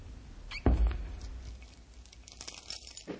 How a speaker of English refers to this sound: Hark! I hear a key in outer door. 'Tis probably more of Despair.